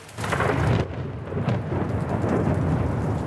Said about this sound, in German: Dunkle Wolken hängen über der Stadt, Regen prasselt auf die Straßen von Rom. Es blitzt und donnert, Spannung liegt in der Luft, vor allem hier in San Lorenzo, dem Studentenviertel von Rom